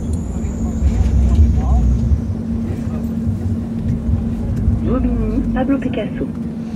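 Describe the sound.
Busy street ambience at the Pablo Picasso bus station beside the metro station in Bobigny, Seine-Saint-Denis, France: a steady low engine drone and passing traffic rumble fill the scene, with voices and brief higher tonal sounds rising near the end.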